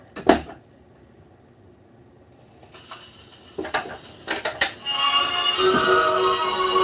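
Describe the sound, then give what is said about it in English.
A sharp click and a few mechanical knocks, then a gramophone record begins playing with the cabinet doors closed, its music and singing sounding muffled and boxed-in as it carries on steadily to the end. “Okay, so the doors are closed right now. You can hear it, but listen to how it opens up when you, well, open the door.”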